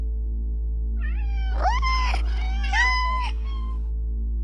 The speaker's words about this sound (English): Aww, my cat.